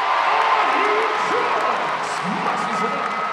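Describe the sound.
A large arena crowd roars and cheers at a basketball game between the Iowa State Cyclones and the Kansas State University Wildcats, a dense, steady wall of noise with scattered shouting voices rising out of it, loud throughout.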